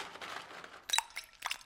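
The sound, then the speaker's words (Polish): An egg drops into a jar partly filled with water, as a method of peeling the egg, with a sharp glassy clink and splashy plop, followed by a softer second splash, over a low background hiss. “Ostatnie dwie metody to słoik w części wypełniony wodą, do którego włożymy jajko.”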